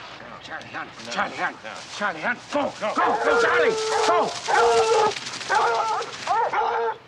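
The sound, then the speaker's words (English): Four hounds, just released, bark and yip excitedly as they race through long dry grass, their high, overlapping cries tumbling over one another in a loud, continuous chorus, with no pause for the whole stretch. “The four dogs race through the long dry grass.”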